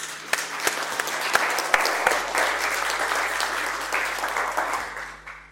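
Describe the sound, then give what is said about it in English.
An audience claps steadily for several seconds to welcome Princeton politics professor Helen B. Milner to speak in Stockholm, Sweden: a dense, sustained burst of applause with sharp individual claps standing out before it gradually thins. “An applause.”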